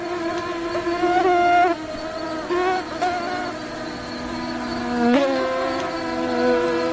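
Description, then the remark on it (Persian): A mosquito's thin, high-pitched whine drones steadily throughout, wavering in pitch and loudness as it flies, with a sudden upward swoop near the end. No voices. “پشه ها از موذی ترین انواع حشراتی هستند که بشر به درازای هزارها کوشیده از شر نیششان رها شود.”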